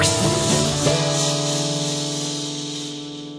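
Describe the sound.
A group of people blow out a long, breathy whoosh to imitate wind, the steady hiss fading slightly over a few seconds while sustained musical tones ring underneath.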